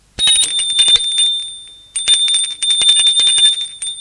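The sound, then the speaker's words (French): An electric doorbell is rung at a front door in two long, loud bursts, its clapper rattling rapidly against the bell for a shrill, high-pitched metallic trill. There is a brief pause between the rings and no voices. “Je descendais, prenais ma valise et sonnais à la porte d'entrée.”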